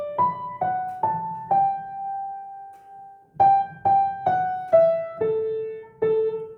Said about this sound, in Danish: Og fløjten og klaveret spiller til start.